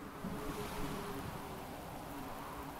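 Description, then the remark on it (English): Steady rushing ocean water surges around a boat, a dense, continuous wash of waves with a faint hum underneath, fairly loud with no voices. “You may have lots of feelings like big waves crashing around the boat.”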